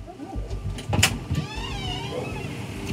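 Inside a moving car on a four-hour drive, road rumble fills the background as an electric window motor whirs, with a sharp click or thump near the start of its travel.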